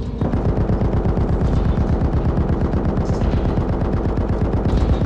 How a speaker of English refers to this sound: There came a sudden explosion of activity as the Duchess's gun sprang to life again and opened fire on the monster.